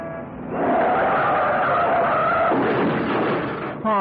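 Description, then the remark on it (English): A car's tires screech in a loud, sustained skid lasting a couple of seconds as it crashes into the back of a taxi, followed by rumbling engine noise and a brief voice at the very end. “Some jerk has crashed into the back of my cab.”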